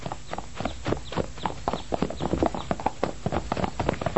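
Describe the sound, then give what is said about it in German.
Horses galloping in a race through woods and over fields, a rapid, steady clip-clop of many hooves drumming with no pauses, loud and continuous throughout. “Und so machen sie einen riesen Umweg durch den Wald über die Felder. Natürlich wieder mit Wettreiten.”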